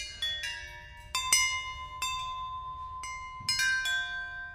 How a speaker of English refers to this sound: I put that together from old spare plumbing parts. That's a little rough sounding, but it's kind of a neat chime too. Kind of a clinky, sort of out of tune, you know. You'd think, well, that's probably what plumbing parts would sound like.